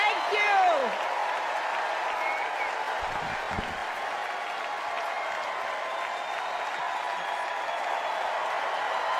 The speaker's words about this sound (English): She's taken the podium. We'll take you there now, live from the DNC at the United Center in Chicago. Thank you all so much. Warm ovation for Hillary Clinton in the bowl.